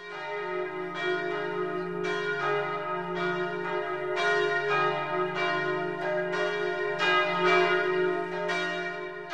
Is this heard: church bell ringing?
yes